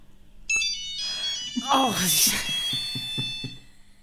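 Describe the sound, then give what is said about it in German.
A steady electronic telephone dial tone hums continuously for several seconds, fairly loud, with a brief voice-like sound rising over it partway through. “Ich gebe dann mal das Freizeichen. Tut, tut.”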